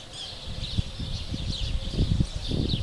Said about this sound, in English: You might hear some birds. I'm all alone in a children's playground.